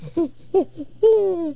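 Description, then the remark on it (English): A person's voice mimics an owl heard almost every night in the woods, giving three short hoots followed by one longer, drawn-out hoot, fairly loud with nothing else in the background. “What owl am I hearing in this part of the country?”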